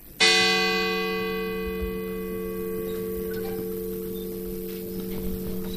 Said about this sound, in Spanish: Con los primeros toques de campana a las 8, los peregrinos de Les Useres han iniciado su camino bajo un escrupuloso silencio, solo roto por los cantos gregorianos.